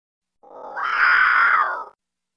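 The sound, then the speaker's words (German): A small monster, not a cat, standing on a sleeping child's bedcover, gives one drawn-out, cat-like meow with a rough, growly edge instead of a roar. It swells quickly, holds steady for about a second and a half, then cuts off, with no talking. “Es ist das Monster, das nicht brüllen kann wie der große Groa, sein Vater, sondern eher miauen.”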